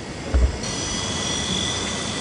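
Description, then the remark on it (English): An Amazon package-delivery drone flies with a steady, airy whirring drone and a faint high tonal whine, a brief low thump near the start, and no voices. “Already in 2013, we heard in the CBS 60 Minutes interview, Jeff Bezos talking with Charlie Rose, Bezos saying, hey, Amazon's getting into delivery, drone delivery.”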